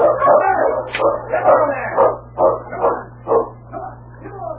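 A pack of sled dogs barks and yips excitedly, their overlapping calls coming in quick, uneven bursts over a low steady hum.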